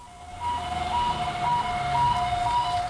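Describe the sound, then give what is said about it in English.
A fire truck siren blares in a steady two-tone wail, alternating high and low notes in a quick regular rhythm, as the truck rolls through city streets with lights flashing in 1985, with a low rumble of traffic underneath. “A fire truck rolled through the streets of the city, lights flashing and siren blaring, to open the one-week membership marathon.”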